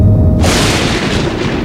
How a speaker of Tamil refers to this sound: ஒருநாள் மாலை நேரத்தில் ஷீரடியில் பயங்கரமான புயல் வீசியது. கருமேகங்களால் வானம் திரையிடப்பட்டிருந்தது. காற்று பலமாக வீசத் தொடங்கியது. மேகங்கள் கர்ஜித்து மின்னல் பளிச்சிட்டது.